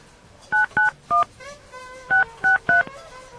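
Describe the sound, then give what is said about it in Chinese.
Telephone keypad dialing tones: six short, clear beeps in two quick groups of three, separated by a brief pause with a faint hum from the line underneath. No one speaks. “好，你再打给他。”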